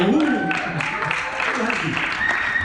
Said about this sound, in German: Und an dieser Stelle nochmal einen großen Dank, riesigen Applaus